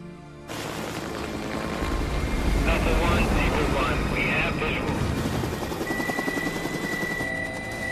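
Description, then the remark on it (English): Two military helicopters in pursuit: loud rotor noise roars steadily throughout, a dense thumping wash of engine and blades, with muffled voices faintly mixed beneath it. “Two military choppers are close on Jack's tail.”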